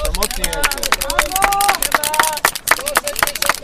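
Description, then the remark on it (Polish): A dense crowd of about 1200 registered runners pounds off together at a race start after a countdown, rapid overlapping footfalls clattering, with a hubbub of voices and shouts mixed in throughout. “Ruszyła ława biegaczy, około 1200 osób zgłosiło się.”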